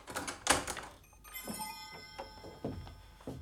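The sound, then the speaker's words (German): Several irregular knocks, by master mechanic Bernbacher, rap against the glass pane of Meister Eder's workshop window, each sharp thunk followed by a faint ringing resonance, with quiet pauses between. “Er arbeitete, bis ihn ein Klopfen am Werkstattfenster aufschauen ließ.”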